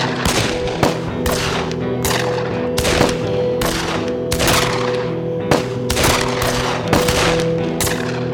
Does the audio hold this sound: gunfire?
yes